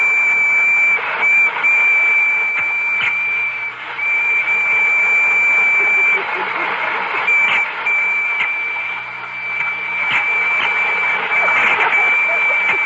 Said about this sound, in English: are the electric trains ready? Oh, I think they're all lined up. Well, start one up and let's see.